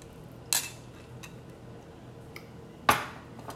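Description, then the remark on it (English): Someone drinking water: a sharp clink-like click at the start, a quiet pause with faint small ticks, then a crisp, louder lip smack near the end. No one speaks. “Let me drink some water on this.”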